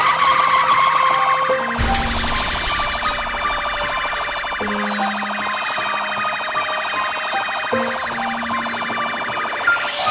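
A police car siren wails loudly and continuously, its tone cycling up and down with sustained harmonic bands, steady across the whole stretch with no voices.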